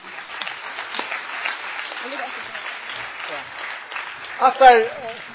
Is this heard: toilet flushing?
no